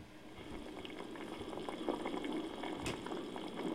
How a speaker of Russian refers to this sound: Похлебка чанго-набе аппетитно кипит. Особый бульон готовят из специальной смеси густого мисо из района Канто и более сладкого мисо сайкё из района Кансай.